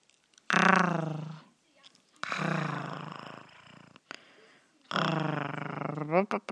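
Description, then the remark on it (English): A human voice imitates a cat, giving three drawn-out, mewing meow sounds with wavering pitch, each separated by a short pause, fairly loud and alone without other talk. “I can make kitty cat noises.”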